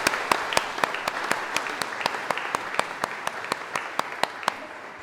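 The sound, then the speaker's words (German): A church audience breaks into warm applause for the new confirmands, a dense wash of many hands clapping with a sharper, steady rhythmic beat cutting through, holding at an even level for several seconds without any talking. “Ein herzlicher Applaus an euch.”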